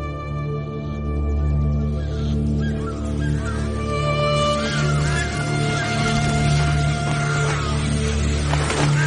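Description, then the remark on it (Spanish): A loud flock of birds squawks and honks nonstop, the harsh calls thickening into a dense, chaotic chorus halfway through, over a steady low droning hum. “¿Los aviones están bombardeando a los pájaros?”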